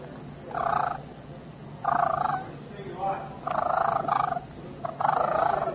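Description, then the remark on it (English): Clear turkey clucks and soft rolling purrs made by a hunter with a turkey call, delivered in four or five bursts of a second or so with short pauses between, fairly loud and alone without talking. “So instead of going out there and blowing them out, I'm going to give you my little secret call. It's called clucking and purring.”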